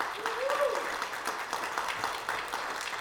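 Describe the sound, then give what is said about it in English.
A church audience at Dallasburg Baptist Church claps steadily for about three seconds for a woman coming forward for baptism, a dense, even wash of applause at moderate volume with a faint voice briefly rising above it. “See, I told everyone clap for you”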